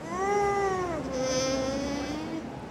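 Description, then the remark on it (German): A soft, drawn-out hum from breeding animals in a hall, steady and tonal, gently sliding lower in pitch over a few seconds. It is quiet, with no one talking. “Die summen.”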